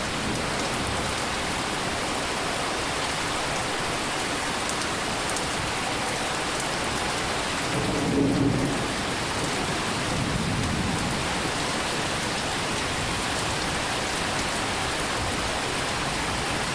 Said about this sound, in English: So, as an example, here's a recording that I did of a thunderstorm outside my kitchen window in the summer of 2020.